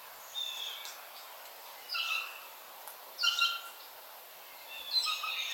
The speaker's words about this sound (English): Well, I never thought I'd be listening to American bird song in a pandemic lockdown, but there you go. There's always some good, interesting stuff that happens. And it sounds so different to the birds in our back garden.